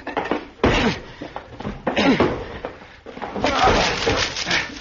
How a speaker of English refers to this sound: The door to the room where he had all of this electrical equipment was locked, and we had to break it down. The door's locked, son. I'll have to break it in. Here, Dad, let me help.